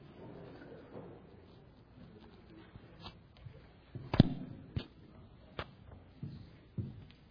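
A microphone gets knocked off its stand during a church service and stays switched on: one sharp, loud thud, then a few lighter knocks and bumps as it settles, over a quiet background murmur.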